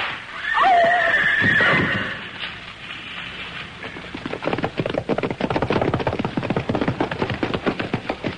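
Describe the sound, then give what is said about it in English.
A loud horse whinny rings out at the start, followed by a rapid, steady clatter of hooves galloping on hard ground as two or more horsemen ride up, continuing to the end. “Two horsemen, perhaps more, overtaking me.”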